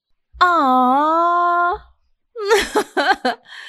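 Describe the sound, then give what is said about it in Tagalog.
A person cries: a long, quavering wail trails off, then after a short pause come several choppy, broken sobs and whimpers. “Sorry, akala ko nagjo-joke ka. Umiiyak no, ka pala talaga.”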